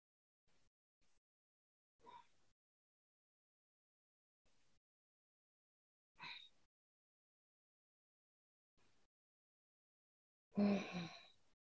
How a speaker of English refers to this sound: And with each exhale, we just come slightly further forward towards that big toe. So just releasing the length of the spine, the lower back. Breathing in and out through the nose.